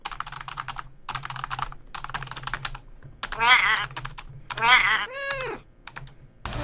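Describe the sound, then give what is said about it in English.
Rapid clicking of typing on a computer keyboard comes in three short bursts, done to ignore a cat so it will come onto the keyboard, then gives way to a cat meowing loudly several times. “And a surefire way is just to ignore the cat and, like, go on the computer.”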